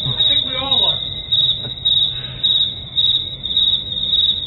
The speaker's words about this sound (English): Crickets.